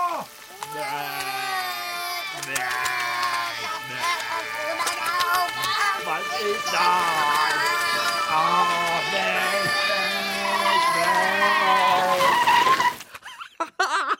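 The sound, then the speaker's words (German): A fire engine drives by, its wailing siren tones wavering up and down over engine and tire noise, loud and steady for about thirteen seconds before cutting off abruptly. “Ein Feuerwehrauto!”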